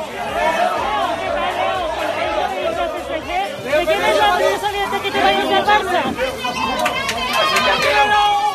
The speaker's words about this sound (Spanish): En el aeropuerto le esperaban unas 20 personas que han coreado su nombre, como oíamos.